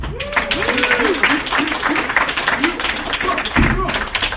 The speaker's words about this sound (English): Big round of applause for me.